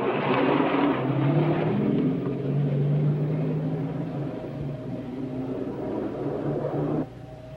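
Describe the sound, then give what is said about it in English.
A car engine rumbles steadily with a low, droning hum as the car drives out of a warehouse and along a bluff overlooking the sea, its tone shifting slightly, the sound easing gradually before dropping away abruptly near the end. No one speaks. “Angelo drives out of the warehouse and along a bluff overlooking the sea.”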